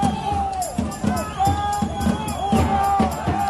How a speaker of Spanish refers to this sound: Unas 175.000 personas se manifestaron por toda Francia al grito de Macron, no queremos tu pasaporte.